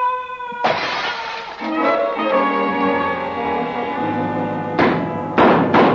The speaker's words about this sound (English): did old Breck go crashing through that window